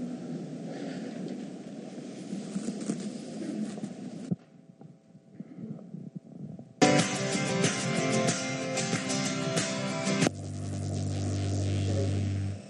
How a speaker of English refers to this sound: Did anybody else hear that electric razor besides me? Somebody's shaving.